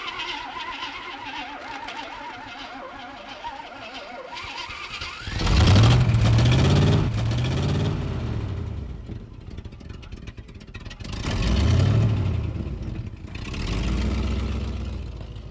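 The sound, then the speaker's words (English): A truck that has been acting up cranks, then its engine roars to life and is revved several times, the loud surges rising and falling over a rough, rumbling idle with no talking. “You might have to give us a jump because my truck kind of acting up.”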